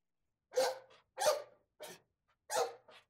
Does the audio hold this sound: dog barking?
yes